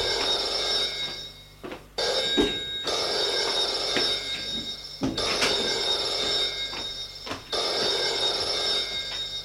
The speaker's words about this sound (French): Il se lève et sort de sa chambre pour aller au bureau de son père répondre au téléphone.